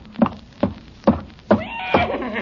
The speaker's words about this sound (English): Good heavens, there is a horse in the kitchen. Not anymore. He's coming right in here. Stand back, everybody.